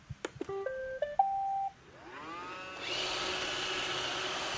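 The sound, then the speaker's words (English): A disc-shaped robotic vacuum cleaner, set on the floor, is switched on with a button: a few clicks and a quick series of electronic beeps, then a rising motor whine that settles into a steady, hissing whir. “Yes, a robotic vacuum. Yeah, robotic vacuum. It's a little noisy.”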